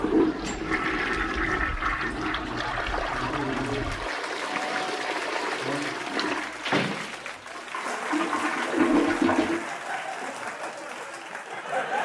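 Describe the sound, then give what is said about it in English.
A toilet flushes with a loud, sustained rush and gurgle of water, blended with crowd applause and murmuring as Joe Biden walks to the podium, then the water swirls down and fades near the end. “when we need a clip or a graphic, someone looks up from their typewriter and screams, give me a clip of Joe Biden walking to the podium with the toilet flushing in the background.”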